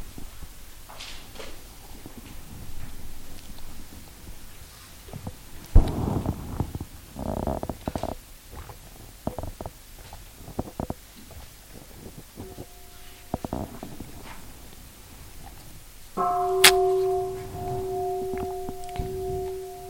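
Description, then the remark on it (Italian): After scattered soft rustles and thumps, a bell is struck once, loud, and its clear tone rings on steadily until the end. “Facciamo un suono di campana.”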